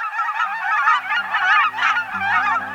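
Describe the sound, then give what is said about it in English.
A flock of cackling geese calling continuously, with high-pitched, rapid honks and yelps overlapping in a busy chorus, loud throughout. “Look and listen for pint-sized cackling geese this fall at refuges, in farm fields, and at other spots where migratory geese gather.”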